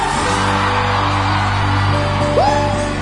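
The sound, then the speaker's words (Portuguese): A large crowd roars continuously when asked to shout and make noise, with scattered whoops and yells rising over a dense wall of noise and a low musical hum underneath, loud throughout. “Só quem tá aviãozeiro, por favor, dá um gritão. Quem tá feliz, faz barulho.”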